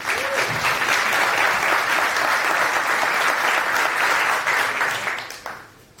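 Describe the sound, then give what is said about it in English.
An audience claps steadily in a dense, even wash of applause for about five seconds as a talk on Nextcloud Talk is introduced, then the clapping thins out and fades away near the end. “It's the first time we have Nextcloud in the house, so please, good round of applause and take it away.”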